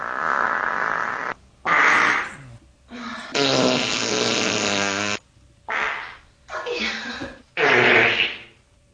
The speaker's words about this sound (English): Me farting.